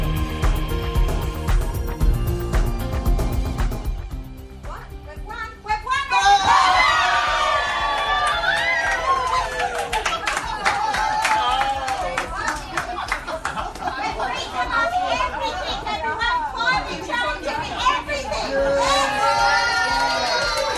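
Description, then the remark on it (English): After a few seconds, a crowd of people in Gloucester erupts into loud, sustained cheering at news that a controversial coal mine in the Hunter Valley will not go ahead, with excited high-pitched shouts and whoops layered over a steady roar of voices that continues to the end. “Cheers from people in Gloucester today as the news a controversial coal mine in the Hunter Valley will not go ahead because of the impact on climate change.”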